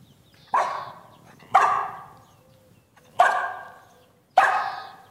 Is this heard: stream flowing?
no